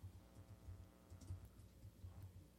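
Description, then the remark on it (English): Steady typing on a computer keyboard, a quick run of soft, uneven clicks and taps at a fairly low volume, with no voices over it. “Not when I typed in, but again, I could be.”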